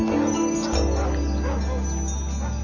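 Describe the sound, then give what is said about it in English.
A black and white dog sitting unattended on a sidewalk barks a few times over a low, steady engine-like hum, with no one talking. “Dennis spots a black and white dog sitting unattended on a sidewalk”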